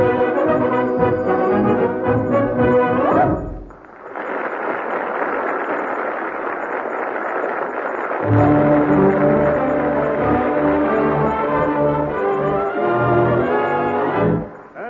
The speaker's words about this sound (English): That fanfare heralds another installment in the adventures of...